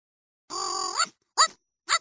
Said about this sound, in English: What's that? Oh, that's my pet dog. That doesn't sound like a dog. Yeah, I know. It's my robot dog.